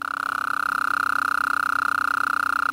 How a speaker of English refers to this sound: In many parts of Texas after a good rain, listen for Gulf Coast toads.